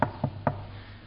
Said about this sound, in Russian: Войдите, кто там? А кто-то там стучит, да?